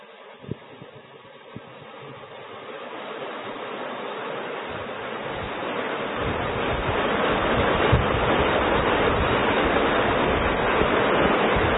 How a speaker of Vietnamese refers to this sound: Ở các vị thiền long là mưa lắm quá, mưa to quá giảng không, mọi người không nghe thấy, thôi giảm bớt đi.